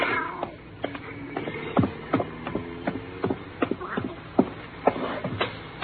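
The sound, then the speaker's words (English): A cat meows a couple of times, its cries rising over a busy background of shuffling, rustling and scattered clattering sounds. “I gotta take this cat back.”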